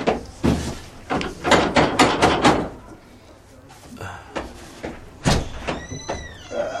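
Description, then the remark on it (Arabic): Several quick, evenly spaced knocks on a door ring out, followed by indistinct voices and some shuffling background noise. “استنى لندق على الباب.”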